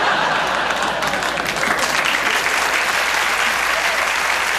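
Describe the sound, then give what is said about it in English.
An audience applauds steadily for the whole stretch, a dense, even wash of many hands clapping at a fairly loud level with no voices standing out. “I think I was starting to hear a smattering of applause.”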